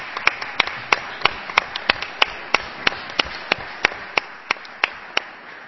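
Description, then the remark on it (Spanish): Audience applause for the maintenance staff, just before a performance of Christmas carols: a steady wash of clapping with sharp, loud individual claps standing out at a quick, fairly regular pace for several seconds, with no voices on top. “gracias también a los servicios de mantenimiento, un aplauso para ellos, que siempre están ahí.”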